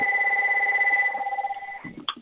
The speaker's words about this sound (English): Well, nothing lacking with the ringer on your phone. Very loud.